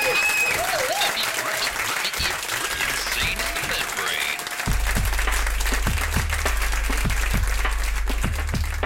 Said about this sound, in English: Thank you for coming. Richard Gadd, round of applause for Richard Gadd. Thank you very much.